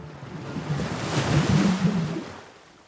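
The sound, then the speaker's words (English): Swirling water and waves surge in a broad, rushing wash that swells to a peak midway and then slowly recedes, with a low churning undertone and no voices. “You find yourself in the water now. The pool of thought swirls around you”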